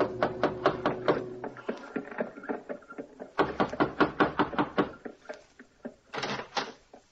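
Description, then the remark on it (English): Dr. Webster knocks on a door in a more or less fashionable part of town: rapid knocking, several bursts of quick, hard raps with short pauses between them, clear, with no one speaking. “Gave the driver his fare, received a wink in return, and knocked on a door.”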